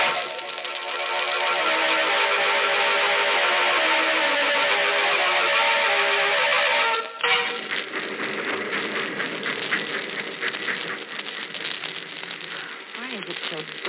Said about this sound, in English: This is just a way station. The train only stops here to let us off. Otherwise, it goes right through.